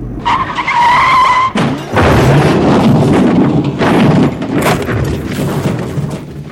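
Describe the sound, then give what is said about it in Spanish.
A car's tires squeal in a high, sustained skid for about a second and a half, then a loud crash erupts into several seconds of harsh, clattering impact noise. “Pero veamos, yo lo que quiero es derrapar con el coche.”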